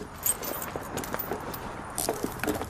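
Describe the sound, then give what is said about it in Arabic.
Metallic jingling of a bunch of keys including a car key, several quick rattling bursts over a few seconds as they are shaken and handed over, with no voices. “والمفتاح والوصل، وهذا مفتاح السيارة.”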